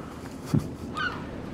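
A small kingfisher calls briefly: first a short, low squawk, then a higher, slightly warbling note a moment later, both fairly soft against a quiet background with no voices.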